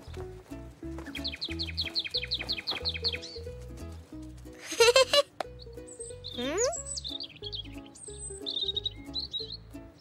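Birds chirp over a steady musical backing, starting with a quick run of about a dozen bright tweets, then rising whistled sweeps and fluttery trills toward the end, clear.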